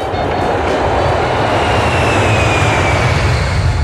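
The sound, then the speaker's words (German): An airplane transporting a bundle of chives to Holland flies by with a loud, steady jet roar and deep rumble, plus a faint high whine that slowly drifts downward. No one speaks. “Mit dem Flieger wurde es nach Holland transportiert und von da mit dem LKW auf den Großmarkt nach München.”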